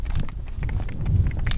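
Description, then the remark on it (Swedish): Quick, steady clattering of miniature horse hooves on the asphalt of a sidewalk near Halmstad, Sweden, as a man walks briskly beside miniature horses being trained as guide horses, with a low rumble of wind blowing over open fields in the background and no voices. “Ljudet från hästhovarna klapprar snabbt mot asfalten på gångbanan.”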